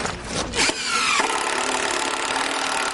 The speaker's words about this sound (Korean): 뜨거운 태양 아래 학생들이 나무 톱질을 하고 못을 박고 조립을 하면서 휠체어가 지나갈 수 있는 경사로를 열심히 만들고 있습니다.